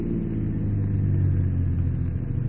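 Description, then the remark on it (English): A car engine slowing down, heard as a steady, low rumbling hum with a deep droning tone that eases slightly over a couple of seconds, with no voices. “What are you slowing down for?”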